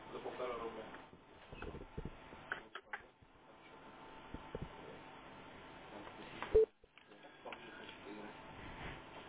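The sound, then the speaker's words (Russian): A telephone ringing during a test call, heard over a muffled, narrowband phone line, the tone sitting in steady crackle and hiss with scattered sharp clicks and pops, one louder click near the end. “Так, вот опять звонит, да?”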